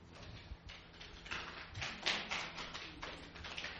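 A crowd attempts one-handed clapping using only their non-dominant hand, the other held behind their backs, producing faint, scattered, irregular taps and slaps that overlap unevenly, with no steady rhythm and no talking.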